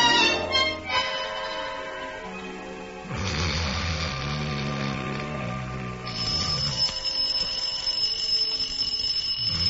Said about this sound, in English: the alarm clock. Turn off the alarm.